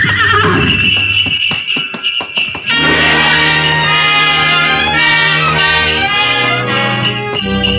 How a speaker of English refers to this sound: We glided out of the station, runners squeaking on snow, the soft pad of hooves, and the jangle of merry bells.